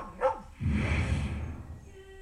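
dogs barking

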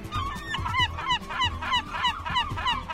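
seagulls squawking

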